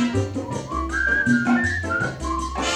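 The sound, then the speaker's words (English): A clear whistled tune glides between high and lower notes, holding each pitch briefly, over a steady musical backing with a bouncing bass line; no one speaks. “Cannot sleep at all because Pito whistles when he snores.”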